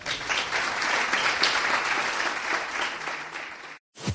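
Sustained audience applause, a dense steady clatter of many hands clapping at an even loudness for nearly four seconds, then a brief silence and a short burst at the end.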